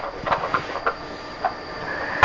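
A toy train rolls along, a steady whirring hum broken by a handful of light, irregular clicks and clacks, with no one talking.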